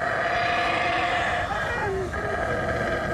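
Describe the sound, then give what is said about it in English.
At dawn, animal family groups call to each other across a forest canopy, howling and roaring together in a continuous, droning chorus, layered calls with a rough, moaning tone that swells and overlaps for the whole stretch without a break. “they're calling to each other, roaring, howling across the canopy”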